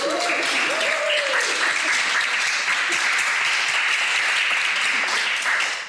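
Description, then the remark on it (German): A crowd applauds with steady, dense clapping that stays loud for about six seconds, with a few faint voices and a brief whoop mixed in near the start; an audience applauding itself on stage at the Debattierhaus Karl der Große in Zurich. “Ein Applaus für euch, dass wir das so gut gemanagt haben.”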